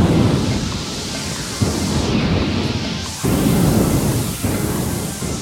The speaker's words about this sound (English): As they approach, they are surrounded by crashing thunder and blinding lightning.